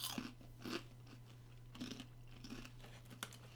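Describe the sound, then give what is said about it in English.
Crisp crunching of peppermint cocoa popcorn being chewed, several irregular bites with quiet pauses between them, over a steady low hum and no talking. “It's crunchy. Maybe it wasn't a marshmallow. Maybe it's just like a mint bit.”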